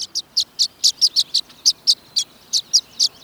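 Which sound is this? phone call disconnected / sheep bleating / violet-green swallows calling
violet-green swallows calling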